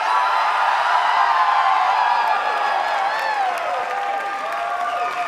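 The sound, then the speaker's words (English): A show audience screams and cheers on the host's request, a continuous, dense wall of high-pitched shrieks and whoops that holds steady at full volume for several seconds with no talking over it. “Now let me hear you scream like a bunch of teenage gays at a … concert where he's wearing no underwear.”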